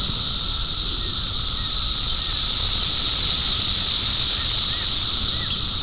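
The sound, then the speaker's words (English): Cicadas, about one to two inches long, buzz in a dense, hissing drone like high-pitched white noise, oscillating at roughly half a hertz to a couple of hertz, holding steady and loud for the whole stretch with no voices. “The cicadas have this weird sound today. It sounds like white noise almost.”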